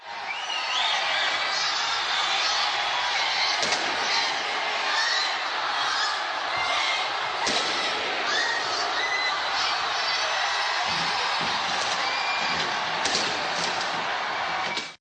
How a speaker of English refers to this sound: Auckland, New Zealand was among the first major cities in the world to usher in the new year 2025 as thousands enjoyed a dazzling firework display at the iconic Sky Tower.